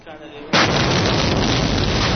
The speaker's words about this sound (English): He and Prime Minister Nouri al-Maliki were meeting with reporters in the Green Zone when reporter … says a rocket landed nearby.